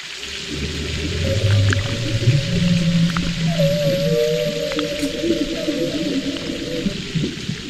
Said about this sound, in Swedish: Ja, det var ju en val som stektes såklart. Nej, valfläsket stektes ju här. Jag tyckte det lät som didgeridoo. Ja. Det är alltså en knölval och sen är det stekt bacon.